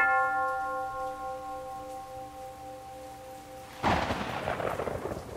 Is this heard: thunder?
yes